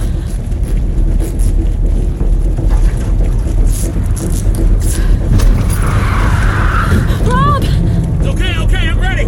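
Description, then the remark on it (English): A car drives steadily, its loud, continuous engine and road rumble filling the whole stretch, with a few faint high squeaks near the end. “I'm gonna stop the car.”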